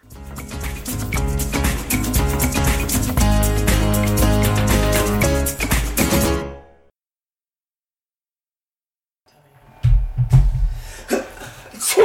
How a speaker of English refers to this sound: Did you just sneeze? You just sneezed? It was dust.